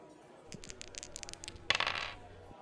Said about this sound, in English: Let's go for dice roll number five.